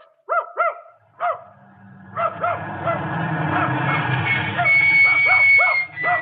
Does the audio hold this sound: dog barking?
yes